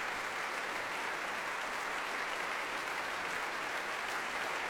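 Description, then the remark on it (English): Steady, dense applause from an audience, a continuous wash of many hands clapping at an even loudness with no voices standing out, sustained throughout. “If the applause stops, that is.”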